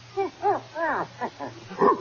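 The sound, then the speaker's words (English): A dog with a keg of brandy around its neck gives a quick run of six or seven short, rising-and-falling barks in an irregular rhythm, moderately loud, with no talking. “Oh, it's only a dog.”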